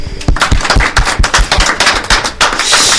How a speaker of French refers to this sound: Et cette fois-ci, c'est le jury que l'on va applaudir.